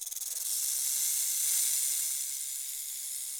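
A snake sliding along gives a steady, breathy hiss that stretches on for a few seconds, fairly loud, with a brief fluttering start and no voices around it.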